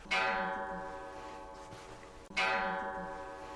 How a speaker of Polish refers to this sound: No, ponad 100-letni zegar. Już ma prawo się wtrącić.